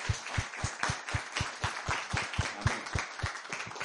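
A crowd applauds steadily to welcome brothers and sisters from different nations and cultures. The dense clapping carries a strong, regular beat as many hands fall into rhythm together, sustained at a moderate level without any voices.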